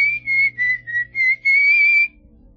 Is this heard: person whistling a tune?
yes